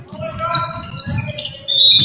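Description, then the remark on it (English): A referee's whistle blows near the end of a basketball game, one sharp, steady high-pitched tone rising over the busy murmur of a crowd and game noise that fills the whole clip. “I heard a whistle.”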